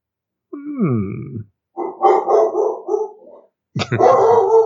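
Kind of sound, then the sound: animal, dog barking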